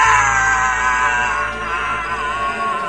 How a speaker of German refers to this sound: Hast du das gehört? Ja, der Schrei ist wahrscheinlich auch mit aufgenommen.